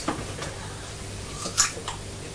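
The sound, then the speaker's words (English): Someone crunches into a pear: a few crisp, wet bites at irregular intervals, one noticeably louder than the rest, over a low steady background hum with no talking. “When you crunched that pear, it sounded just like a raw carrot.”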